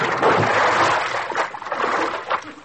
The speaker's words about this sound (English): I'm supposed to fall in the water.